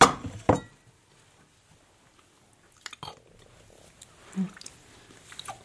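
Loud crunching as someone bites into a dry, crisp zwieback rusk, followed by quieter chewing broken by a few sharp crunches near the end. No one speaks.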